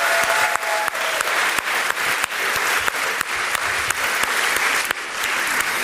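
An audience claps steadily and loudly for several seconds, a dense wash of many hands with scattered sharper individual claps standing out, and no voices on top.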